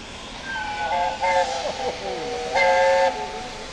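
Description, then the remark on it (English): The steam locomotive Tornado hisses loudly and steadily as it pulls in to platform 3B at Lincoln Station in a cloud of steam, while two bright whistle blasts sound, the second longer, over a broad wash of escaping steam. “And in a cloud of steam, the tornado is pulling in to platform 3B at Lincoln Station.”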